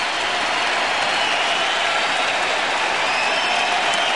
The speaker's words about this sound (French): Les applaudissements durent 3 minutes. Et dans le monde du sport, c'est considéré comme la plus longue standing ovation de l'histoire.